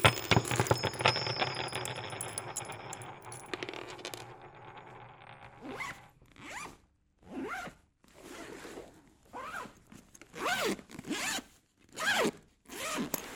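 A suitcase being packed with photos and a lucky stone, with several seconds of rustling and shuffling, then a series of about seven quick zipper pulls in an uneven rhythm, each a bright rasping sweep.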